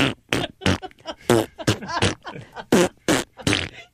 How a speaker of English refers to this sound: We haven't made a fart sound in a while, and I think it's appropriate.